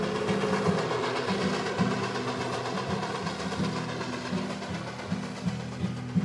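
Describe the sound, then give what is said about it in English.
A train rumbles steadily along the rails, a continuous roar with a low droning hum and faint rhythmic clacking, plus a few sharper knocks toward the end. No one speaks. “I forgot about the train when I read the words.”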